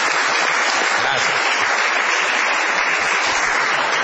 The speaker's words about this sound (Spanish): Seguimos en La Venganza Será Terrible, hoy desde el Auditorio del Plata, en Gorriti 5963, hoy con la presencia invalorable de nuestro querido Coco Cilia, a quien debemos volver a aplaudir, por favor.